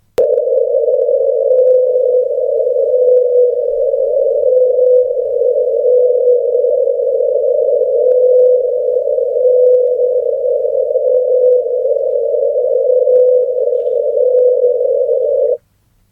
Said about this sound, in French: On ne sait pas de quelle espèce ce chant provient, on ne sait pas si c'est un mâle ou une femelle. En fait, ce qu'on entend, c'est le chant d'une baleine désaccordée. Elle chante à une hauteur de 52 Hz, bien plus haut que ses copines baleines.